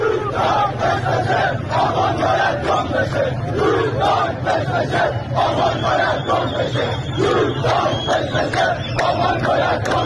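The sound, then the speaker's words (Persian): A large crowd at the protests in Dezful chants slogans loudly and continuously, many voices shouting together in a steady rhythm, with a dense roar of crowd noise throughout and no pauses. “اینم گوش بدین، بازم مربوط به اعتراضات دسفوله.”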